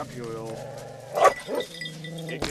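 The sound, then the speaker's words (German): Several hunting dogs bark and yelp excitedly, with high whining cries running between sharper bursts of barking, as they are taken out of their transport cages and fitted with safety vests before a hunt. “Die Hunde sind aufgeregt.”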